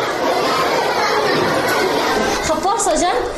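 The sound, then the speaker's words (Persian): A roomful of children chattering at once in a classroom at the Labkhand-e Kudak centre in the Deh Buri area of Kabul, a steady din of young voices, with one child's voice rising clearly above the babble near the end. “در ابتدا خواستم به صنف درسی این کودکان بروم.”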